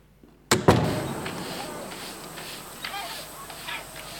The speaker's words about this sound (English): Echoey type door open and close. Door closed first.